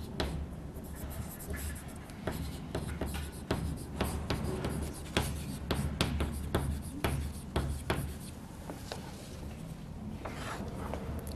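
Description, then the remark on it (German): Chalk or marker strokes on a board, a quick series of short taps and scratchy scrapes with uneven rhythm, steady and fairly faint over a low background hum, with no talking. “Das heißt, schreiben wir das dazu.”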